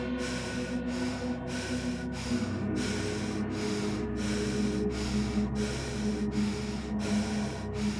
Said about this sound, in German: Atmen Sie gleich lang und kräftig durch die Nase ein und aus.